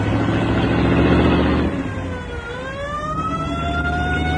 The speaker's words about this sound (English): I think I'll step on the gas just the same. We'll be a whole lot safer at the airport.